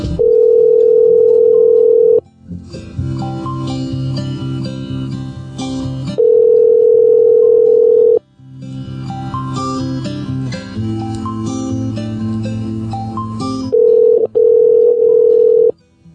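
A phone call to a Best Buy store in Plano rings down the line: steady, two-second electronic ring tones repeat about every six seconds, loud and clear, with bursts of music playing in the gaps between rings.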